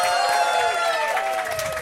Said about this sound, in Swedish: Wow, det är applåder och de är inte pålagda. Nej, de är inte pålagda. Hjärtligt välkomna till Aftonbladet. Vi befinner oss nu i Social Kitchen och vi säger hjärtligt välkomna till vår live-publik.